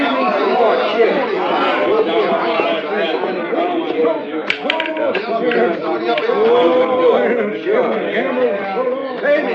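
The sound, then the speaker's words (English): A dense crowd of many voices talks and laughs at once, a steady loud murmur of overlapping chatter in a saloon with no single speaker standing out, broken by a brief sharp clink partway through. “Some crowd, huh?”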